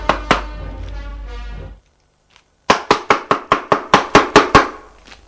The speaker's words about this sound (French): Le lendemain, il est réveillé par des coups à la porte.